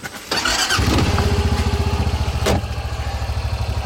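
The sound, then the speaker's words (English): A truck engine rumbles with a deep, steady pulsing throb as the truck drives down a bumpy forest road near Algonquin Park. The sound opens with a brief rush of noise and has a single sharp jolt partway through as the vehicle rolls over rough ground. No one speaks. “we're in Mike's truck right now, driving down a really bumpy forest road”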